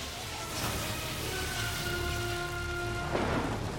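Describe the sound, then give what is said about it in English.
Steady rain hisses throughout with a low rumbling thunder background, then a sharp crack of thunder breaks near the end, with faint sustained musical tones underneath. “The crack of lightning.”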